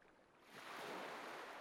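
Waves wash up on the shore of an uninhabited island, a broad hissing surge that swells louder after a quieter start and keeps rushing steadily, with no voices present.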